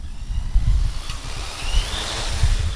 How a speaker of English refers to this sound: The quadcopter zips 300 feet into the air, directly above our heads, pauses for a moment, and then begins to move.